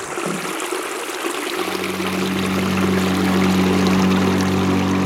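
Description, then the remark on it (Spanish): Steady rushing water flows as a small metal boat travels along the Caño Chiquito river, littered with fallen trees; after a second or two the boat's motor starts a low, constant drone beneath the splashing, both continuing without speech. “A bordo del bote La Tempestad, recorremos río Caño Chiquito.”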